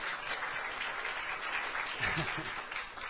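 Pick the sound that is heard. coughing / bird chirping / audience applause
audience applause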